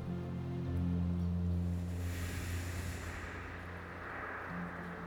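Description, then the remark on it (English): Steady rain patters on rocks as a dense, continuous hiss, with a low droning hum running underneath for the first few seconds. No one speaks. “And tune in to the sounds of the rain.”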